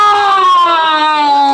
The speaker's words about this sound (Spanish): Calimán finge a la perfección. Se retuerce como si sufriera intensos dolores y lanza gritos capaces de erizar los pelos.